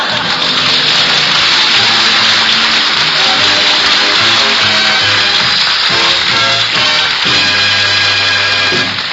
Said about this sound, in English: Gee, we'll need some more hot water. Would you turn on the hot water